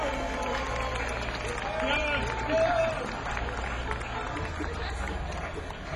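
An audience at a live band concert applauds steadily, a dense wash of clapping that holds for several seconds, with a brief whistle or cheer rising out of it partway through.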